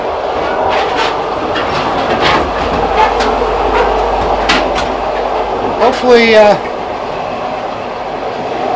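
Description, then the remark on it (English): Steady rumble of a passenger train with a dining car rolling along the rails, heard from inside the carriage, with rhythmic wheel clacks, a brief high squeal near the end and faint muffled voices in the background. “I just remembered seeing a whole bunch of soldiers getting on the train earlier, and that must be them, except they're in civilian garb now.”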